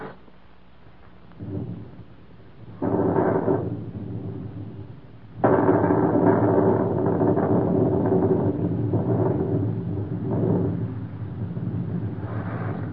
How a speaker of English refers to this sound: Looks like a storm coming up, don't it?